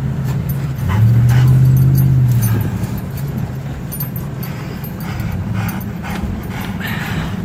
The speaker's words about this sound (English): His cell phone video is through the passenger side window. His brother-in-law is at the wheel. His dog is panting in the back seat. Flames surround them.